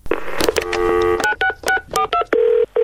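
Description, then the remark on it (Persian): A string of telephone dialing keypad tones beeps in quick succession before phone messages, each short dual-pitched tone separated by brief gaps, ending in a longer steady tone. Loud, with no voices. “به چند پیام تلفنی گوش میکنیم.”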